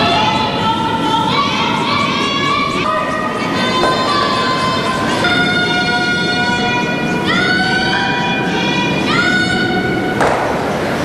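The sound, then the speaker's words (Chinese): Loud, drawn-out shouts from several athletes in a curling match ring out repeatedly, rising and falling in pitch over a steady rush of ice sweeping and arena noise. The athletes are shouting coded commands to their teammates along the sheet of over 44 metres, such as 'hurry' and 'whoa'. “大家其实可以从现场的比赛的运动员的喊叫声中就能感受得到。”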